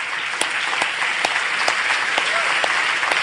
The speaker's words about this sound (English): Now, for this next section, yeah, do give them a clap.